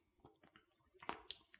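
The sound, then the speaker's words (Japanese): Soft, wet squishing of soapy lather as fingers wash with foam mixed with a slippery liquid, a few sticky smacks and clicks in quick succession that grow louder toward the end, with no voices. “泡と混ざってすごいことになってます。”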